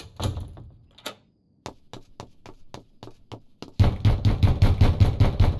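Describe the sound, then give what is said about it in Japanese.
Sharp knocks strike a locked door in a quick uneven series, then give way to loud, frantic rattling and banging as the door is shaken hard against its frame. “このドアはパストルが開けろって言うまで開きません。”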